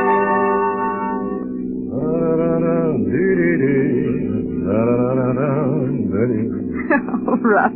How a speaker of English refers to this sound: Oh, darling, you've been humming that all day.